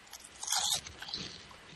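A crisp crunch of someone biting into a Munchos potato chip, one sharp burst followed by a few quieter crackly chews, with no talking.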